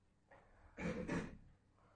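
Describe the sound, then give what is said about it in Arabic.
A door is opened, with a soft click and then two quick rattling knocks of the latch and frame, fairly loud against quiet surroundings. “فتحوها الباب إذا مو زحمة عليكم، إذا مو زحمة عليكم أحسنت.”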